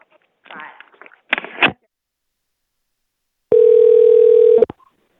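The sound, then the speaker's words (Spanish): A few brief muffled voice sounds, then after a pause a loud, steady dial tone from a public telephone hums for about a second before cutting off abruptly, after the call has dropped. “Que se cayó la llamada. Tiene que llamar, este es un teléfono público.”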